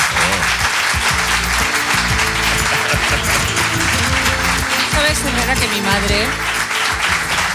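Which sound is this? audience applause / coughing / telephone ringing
audience applause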